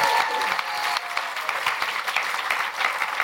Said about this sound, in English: And we're also joined by Simon Garfield. Simon Garfield, round of applause for Simon, please. Yay!